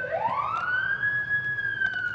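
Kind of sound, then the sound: vehicle, emergency vehicle sirens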